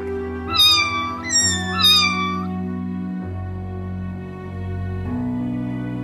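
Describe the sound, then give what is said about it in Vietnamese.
Three clear cat meows in quick succession, fairly loud, each with a rising then falling tone, followed by a steady low background hum. “Con mèo nó tha về lần này cũng thuộc loại mèo mướp giống hệt nó.”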